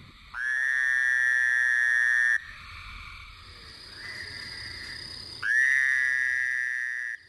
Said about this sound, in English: By early summer, we may hear cricket frogs and this fowler toad.